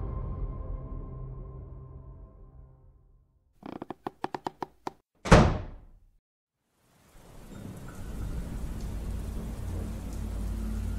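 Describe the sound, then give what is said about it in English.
A low droning hum fades out, a quick run of clicks follows, then a sharp, loud thunderclap, a brief hush, and steady rain pouring down at night to the end. “It was a rainy night, and I had just finished dropping off an order at a small local home.”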